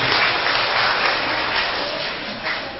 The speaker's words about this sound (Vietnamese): Rồi hay quá, cho một tràng pháo tay.